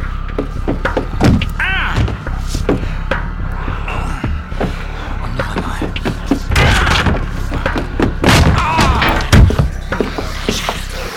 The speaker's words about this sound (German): Gehen Sie von der Tür weg, ich breche sie auf.